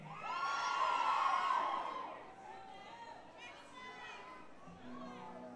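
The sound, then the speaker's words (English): A concert crowd yells loudly, one sustained shout rising for about two seconds, then settles into a lively murmur of scattered voices and calls. “You don't need to yell.”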